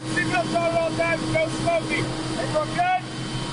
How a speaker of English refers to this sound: It's how Americans and their allies working at the U.S. Embassy and military headquarters travel back and forth from the airport. It's just a 5-minute flight. The chopper we boarded was making its 10th trip of the day.